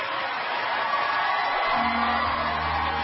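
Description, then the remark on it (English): A large audience at a talent show screams, whoops and cheers loudly and without a break for a crooner from Logan, West Virginia, a dense roar of many voices that stays at full volume for the whole few seconds. “How are everybody screaming and yelling at me?”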